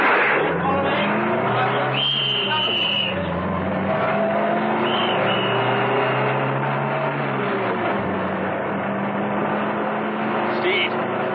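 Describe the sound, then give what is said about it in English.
An armored car's heavy engine is started and roars loudly and steadily throughout, revving and surging as it tears off at speed, with brief high squeals cutting in near the start, middle and end. “they slammed the doors closed and ran towards the armored car. Steed started her up, and they roared off.”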